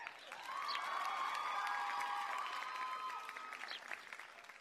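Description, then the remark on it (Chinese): A group of people cheers and claps for about four seconds, with rising whoops and a whistle over dense, steady crowd noise that tapers off at the end. “先不要欢呼，有个事儿想问一下你们的意见。”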